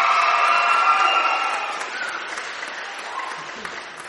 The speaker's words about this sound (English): And if you're listening at home, you'll just have heard thunderous applause from our live studio audience. And they've come into us from Skultrasa in Firhouse in Dublin. So a big round of applause for everyone in Skultrasa.